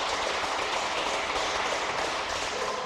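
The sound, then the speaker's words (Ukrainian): A crowd applauds steadily for about three seconds, a dense, even wash of many hands clapping at once with no voices over it. “Ну, красунчик, панове, аплодисменти, так, конгрес.”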